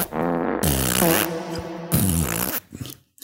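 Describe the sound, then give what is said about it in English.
Two long, wobbling fart noises in close succession, loud and buzzy with a shifting pitch, sounding like a person imitating flatulence with their mouth, followed by a brief rustle. “No, I'm going to fart. I'm shocked by this development. ICAC will fart right back.”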